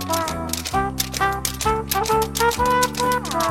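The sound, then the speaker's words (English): Quick, crisp tap dancing taps clatter in a lively rhythm, fairly loud, riding over an upbeat musical accompaniment with steady sustained notes. “Honey, those sheep are tap dancing.”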